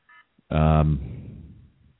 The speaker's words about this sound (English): And I was oh shit, hear that? It's my alarm. I got to do my show. Hang on.